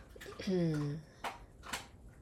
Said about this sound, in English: I'm not sure if you're hearing it on camera, but just know that my doggo is crunching on some kibbles. So you may hear that in the nearby background.